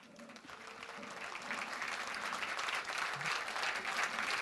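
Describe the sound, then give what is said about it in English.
An audience at a talk about archiving teletext claps steadily, the dense crackle of many hands building slightly in loudness over several seconds, with no voices speaking over it. “So, yes, thank you for the applause.”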